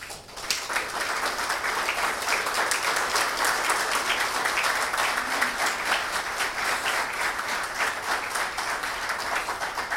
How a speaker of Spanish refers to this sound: Por fin aplaudieron, ¿no? Estaban más callados que en un velorio. Empiezan a aplaudir, vamos a darle alegría.